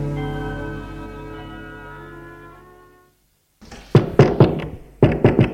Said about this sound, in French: Puis, l'on frappe à la porte.